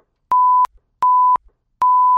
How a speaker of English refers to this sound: Now, I don't know if you can use this. Maybe it's just a whole bunch of beeps you heard.